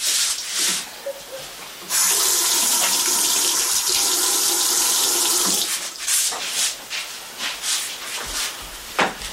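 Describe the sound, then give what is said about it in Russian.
A tap gushes in a steady, loud hiss of water for about four seconds as hands are washed after using the toilet, then cuts off, leaving light splashes and clatter at the sink. “Да, но умыться-то надо ручки помыть после туалета.”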